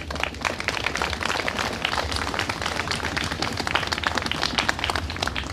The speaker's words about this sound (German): Dafür erst nochmal an dieser Stelle ganz, ganz, ganz großen Applaus.